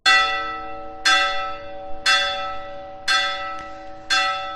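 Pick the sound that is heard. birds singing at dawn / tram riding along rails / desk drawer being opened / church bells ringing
church bells ringing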